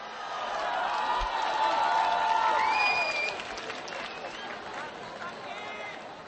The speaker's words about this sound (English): Hundreds of film fans cheer the arrival of special guest Sharon Stone at the 40th Karlovy Vary International Film Festival.